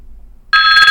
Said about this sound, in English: So now we're going to turn on the Odin VI. Again, to turn on the Odin VI, press and hold the end call power button until you hear a phone ring sound. I'll do this now.